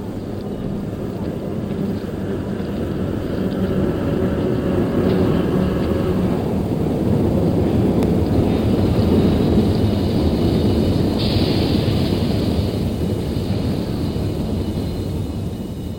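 A studio recording of a metro train rumbling steadily and loudly, a dense low roar with a hissing upper layer that holds for the whole stretch, briefly sharpening near the end, with no voices.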